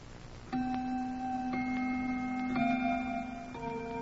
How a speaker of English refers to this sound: It was exactly 6:45. That I remember because the grandfather's clock in the living room was just beginning to chime.